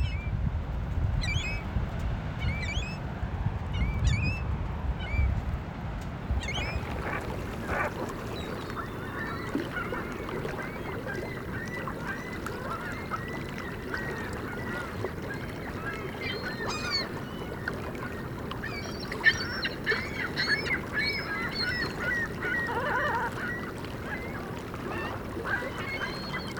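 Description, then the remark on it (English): Ring-billed gulls call repeatedly in a noisy outdoor setting, their harsh, squealing cries overlapping over a steady rumble of wind and water, with a low engine-like drone early on. “This has been WSHU's Birdsong Break featuring the ring-billed gull.”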